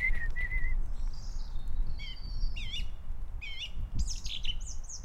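Several birds sing in quick succession, with bright whistles and rapid rising-and-falling chirps in a steady outdoor chorus. A low, continuous rumble of wind or background noise runs underneath.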